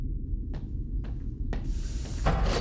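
A steady low mechanical hum with three evenly spaced clunks, then a rising airy rush as a sliding elevator door opens.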